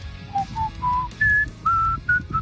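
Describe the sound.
A person whistles a short melodic tune, clear pure notes rising and falling in pitch with brief gaps between phrases, over a low background rumble.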